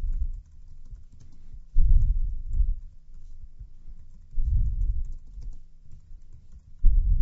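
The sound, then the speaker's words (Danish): Steady, muffled typing on a computer keyboard while writing a bullet-point list, a quick run of soft key taps with a few louder bursts, with no one talking. “Så nu klikker jeg her, og så går vi i gang med at skrive sådan en her.”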